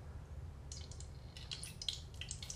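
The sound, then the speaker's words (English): A splash of soy sauce sizzling in very hot oil: soft, irregular crackles and pops that start after a moment of low steady hum and keep spitting unevenly. No one speaks. “But our oil is very hot now. You can hear it sizzling.”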